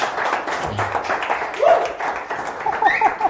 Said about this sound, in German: Ja, ja, einmal Applaus bitte. Vielen Dank.